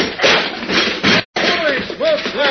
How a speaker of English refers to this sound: Who's that? He's busting down the door.